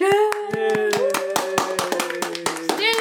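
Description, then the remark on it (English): A quick, uneven burst of hand clapping, many sharp claps over about three seconds, heard over a steady, sustained voice-like tone. “This is where you applaud.”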